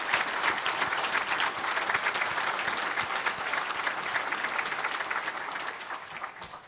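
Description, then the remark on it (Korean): A large church audience claps together in sustained, dense applause of thanks, a steady loud wash of many hands that holds for several seconds and eases slightly toward the end, with no talking over it. “이제 우리 모두 귀한 은혜를 베풀어 주신 주님과 수고해 주신 많은 교우님들께 우리의 온 마음을 담아서 박수로 한번 감사를 표하겠습니다.”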